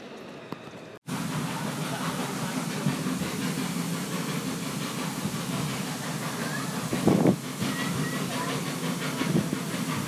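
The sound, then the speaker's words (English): A steady low rumble and hiss of a moving train running from Whitby, heard from inside a carriage as the North York Moors pass by, with a brief louder clatter midway and faint indistinct voices in the background. “As you can hear, I made the train.”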